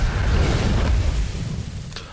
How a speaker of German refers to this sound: Genauer gesagt, ein Stern explodiert, es gibt eine Supernova, aber man wacht, keine Angst, am Anfang des Spiels wieder auf und kann von vorne anfangen.